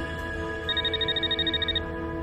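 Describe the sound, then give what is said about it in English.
A telephone rings in a quick warbling electronic trill, about a second of rapid pulses, clear over a steady low background hum; it is Norman's phone being called by Hannah, and he answers it. “Norman answers his phone.”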